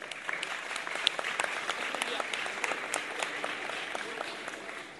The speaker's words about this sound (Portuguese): Salve Mário Leite, uma salve de palmas.